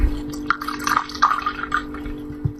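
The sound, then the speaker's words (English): Wine glugs out into a glass in a quick run of gurgling splashes, fairly soft, with a faint steady hum underneath and no one speaking. “Pour wine. Tok tok tok tok tok.”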